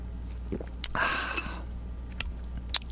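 A short splash of water pours into a glass for about half a second, moderately loud, with a few small clinks and taps around it over a low steady hum.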